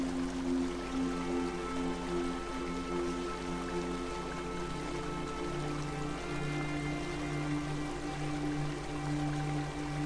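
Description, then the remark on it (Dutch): A mountain stream flows steadily, a continuous wash of rushing water with a soft, sustained musical drone humming beneath it. No one speaks. “Dan sta je nu op en loop je langzaam langs de beek de berg weer af.”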